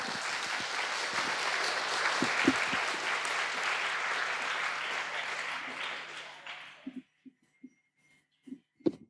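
An audience breaks into dense, steady applause for a volunteer coming up onto the stage, holding for several seconds, then stops fairly abruptly, leaving near quiet broken only by a few faint, soft thuds.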